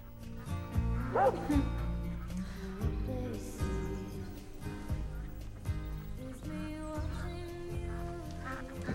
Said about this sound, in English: She wakes up to the sound of a dog barking.